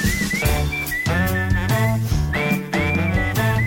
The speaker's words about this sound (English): You want to hear whistling, I guess.